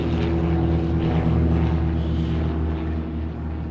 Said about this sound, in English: Just then, as expected, the Waco aircraft was spotted.